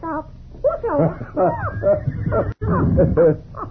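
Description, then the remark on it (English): Chiquita, a pet bird, chatters in a run of squawky, voice-like warbles and rising whistles when asked to talk, nearly continuous for a few seconds with one brief pause. “That is why I say Chiquita, she's a very wise bird.”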